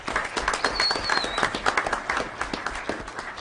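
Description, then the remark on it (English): A crowd applauds steadily for Osborne Two-Way Immersion Academy, third-place winner in the elementary division, as it comes up to receive its award. Dense overlapping claps form a continuous patter at a moderate level, with a faint high whistle rising briefly above the clapping. “Another round of applause for Osborne.”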